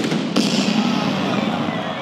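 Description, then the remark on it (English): A starting cannon fires a single sharp blast at the start of a race, then a dense, steady roar of noise carries on at the same loudness afterward, like a large crowd outdoors. “And then the cannon goes off.”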